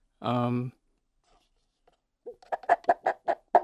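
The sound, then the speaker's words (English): An imitated chicken clucking made with props: a brief squawk-like tone, a pause, then a quick run of about seven sharp, evenly spaced clucks. “That could be a duck, but it's a chicken. Okay, a chicken clucking.”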